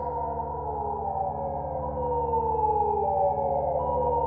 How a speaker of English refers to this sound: The morning wake-up call would always blare loud enough to leave lingering noise in every ear it reached, cracking the air with a siren that shook every bed into waking. The sound was harsh, but celebrated for its efficiency.